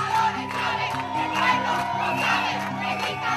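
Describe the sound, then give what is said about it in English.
Hundreds of students protesting the shutdown of Radio Caracas Televisión (RCTV) down one of the biggest streets in Caracas, Venezuela, shout and chant together in a dense, continuous roar, with rhythmic surges of voices rising and falling throughout; they chanted "Chavez is a dictator and the people know it." “Hundreds of students were out protesting down one of the biggest streets in Caracas, shouting, "Chavez is a dictator and the people know it."”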